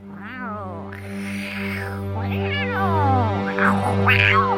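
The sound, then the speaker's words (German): Two cats fighting in a garden yowl and screech in a string of drawn-out, wavering cries, loud, rising and falling over a steady low background hum, with no talking. “Als Vivaldi sich Zeldas Garten näherte, hörte er Katzenschreie.”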